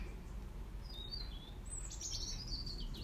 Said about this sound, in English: It's a beautiful day. Lovely bird.